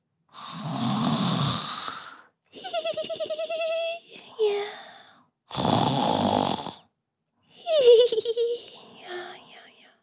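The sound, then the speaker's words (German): A voice imitates gentle snoring: three slow cycles of a breathy, rasping inhale followed by a soft, whistling exhale, separated by short pauses. “schnarchte schon leise vor sich hin.”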